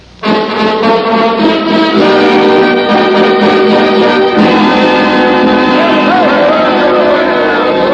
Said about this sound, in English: Down to the jail. There's a mob down there yelling for blood. They're out to hang the Clay boys.